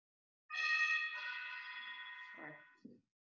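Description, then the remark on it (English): A house doorbell rings with a two-tone electronic chime, the first note shifting into a second, sustained tone that rings for about two seconds before fading, followed by a brief faint murmur. “This is the first time I actually hear the doorbell.”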